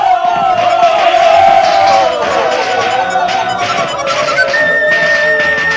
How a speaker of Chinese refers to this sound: 欢呼声几乎把大食堂的房顶都掀了起来。